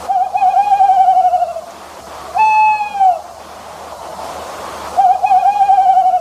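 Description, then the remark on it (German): An owl hoots three times, long quavering mid-pitched calls with a trembling, harmonic-rich tone, the middle one shorter, separated by brief pauses over a faint steady background hiss. “Das war eindeutig eine Eule, ne?”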